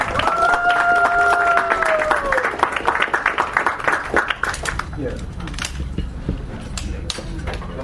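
An audience breaks into loud, sustained applause for a speaker coming up to talk about playing beat baseball and starting a league for children, dense rapid clapping throughout, with a held cheer in the first couple of seconds before the clapping thins slightly toward the end.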